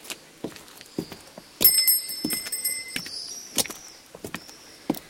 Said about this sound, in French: Et maintenant, remue la sonnette et marche.